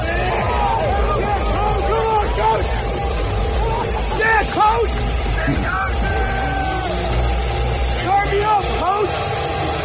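Loud, steady airplane engine roar at the airport in State College, where a crowd came to greet Matt Campbell, fills the whole stretch without letting up, with the crowd's voices chattering underneath, mostly drowned out by the noise.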